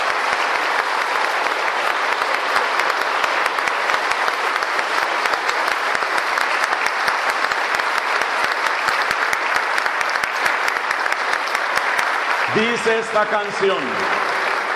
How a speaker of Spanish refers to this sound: Y como señal de nuestro amor te damos un aplauso, Jesús, porque te amamos.